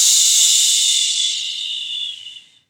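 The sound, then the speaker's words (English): A single long, forceful exhalation after a deep breath in a guided breathing exercise, pushed out in a big, steady, airy whoosh, bright and hissy. It lasts over two seconds before tapering off into silence. No one speaks. “Let's start by taking 4 deep breaths with that big whoosh exhalation.”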